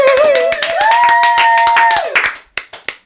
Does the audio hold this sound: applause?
yes